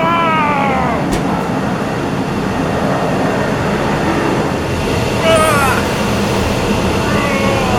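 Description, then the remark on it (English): A loud, steady roar of a fighter jet engine as the jet takes off, filling the scene from start to finish, with rising, whining tones sweeping over the dense rumble. “Sean takes off after his maverick colleague, screaming his way to soar down the hall and to the base's exterior, then flying up into the air as the fighting jet takes off, Thunderbird now reaching it and leaping up onto it.”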